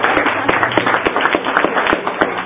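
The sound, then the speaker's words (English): A round of applause from a group, dense overlapping hand claps forming a steady, loud wash of noise with sharper individual claps popping out throughout. “so I think we owe her a round of applause.”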